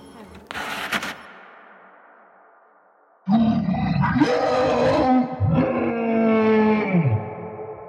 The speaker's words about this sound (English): From somewhere out of sight, the monster let out an almighty howl.